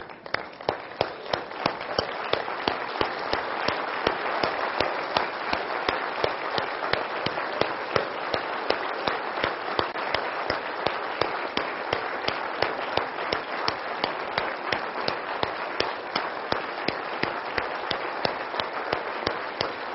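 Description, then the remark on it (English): A crowd applauds steadily at a McGill medical graduation, with dense overlapping claps forming a continuous, even wash of sound that neither builds nor fades over the whole stretch, thanking the young doctors' families. “And you wonderful folks in, yes, the other room, we were applauding for you as well.”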